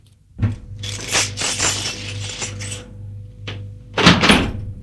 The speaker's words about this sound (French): Et il a ouvert la porte. Merci, monsieur. Ce qu'il faut, c'est bien tenir la clé droite.